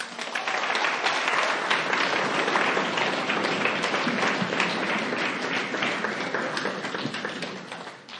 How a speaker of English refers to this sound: That was amazing. Can we get another round of applause for her? Very powerful. Thank you.